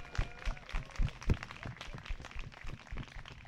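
A crowd applauds with a dense, crackling patter of many hands clapping, steady and fairly quiet, with a few heavier thumps early on and no one speaking.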